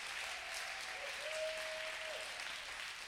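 An audience claps for their pastor, a steady, continuous, dense wash of many hands at even loudness, with a thin, steady whistle-like tone sounding briefly through the middle.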